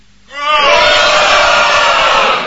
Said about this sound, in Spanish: Gritemos un gol de Corea del Sur. ¡Gol de Corea del Sur!